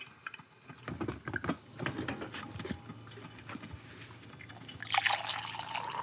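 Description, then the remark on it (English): Coffee trickles and splashes into a cup, a short pour with small drips and clinks, rising slightly in pitch toward the end. No one speaks. “Now, while I drink this cup of coffee”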